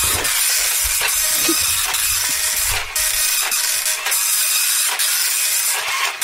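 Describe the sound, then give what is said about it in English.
A slow printer prints out a page with a steady mechanical whir and hiss, broken by regular clicks and shuffles as the print head sweeps back and forth. No one speaks. “Quite a slow printer”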